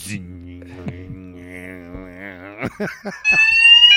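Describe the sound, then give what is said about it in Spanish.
A loud, steady electronic alarm blares in abruptly near the end, a shrill continuous ring that follows a few seconds of wavering vocal tones and a brief clatter. “Pues sí, preparen y que suenen sus alarmas, señoras y señores,”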